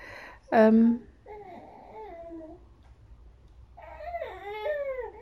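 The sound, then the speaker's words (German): A baby girl fusses because she wants to sleep but cannot fall asleep: a short, louder squawk, then drawn-out grumbling whines and moans that rise and fall in pitch, with no adult talking. “Jetzt knurren wir ein bisschen rum, weil wir schlafen wollen und nicht in den Schlaf kommen, wie immer.”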